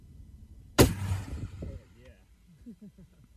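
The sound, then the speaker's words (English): One loud, sharp blast from a .50 caliber machine gun rings out with a short echoing tail, followed by faint murmuring voices in the background. “.50 cal can crack a block on a truck.”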